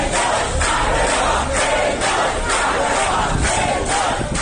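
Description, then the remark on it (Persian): A large crowd in the arrivals hall of the airport in Tehran, Iran, chants and cheers loudly, hailing an arriving Iranian climber as a hero, voices rising in steady rhythmic waves roughly once per second, dense and continuous throughout. “مردمی که در سالن ورودی فرودگاه در تهران او را قهرمان می خواندند.”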